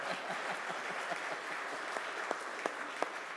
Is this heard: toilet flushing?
no